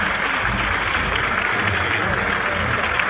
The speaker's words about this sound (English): and as we anticipated, the most that you can hear probably from the band is the bass drum and the applause and the cheers that are greeting the president's appearance now.